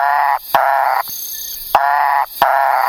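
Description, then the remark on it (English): A Macaya burrowing frog calls loudly in two pairs of harsh, nasal, croaking notes, each about half a second long, with a short pause between the pairs and a steady high whine behind them. “You also found a frog with a very froggy voice.”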